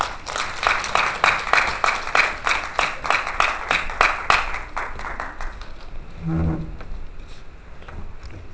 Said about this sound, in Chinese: 下面就让我们以最热烈的掌声有请盛老师。